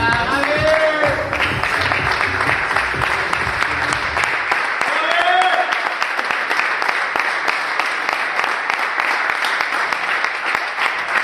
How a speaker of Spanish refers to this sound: Esta mañana Gavi ha acudido a la ciudad deportiva del Barça, donde ha sido recibido con aplausos por parte de Xavi y del resto de sus compañeros en el gimnasio.